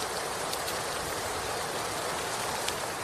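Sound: heavy rain falling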